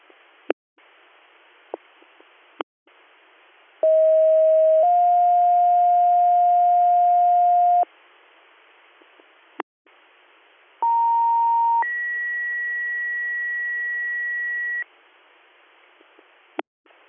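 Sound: fire dispatch alert tones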